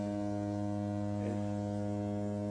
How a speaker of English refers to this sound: Is that a foghorn? Am I hearing a foghorn?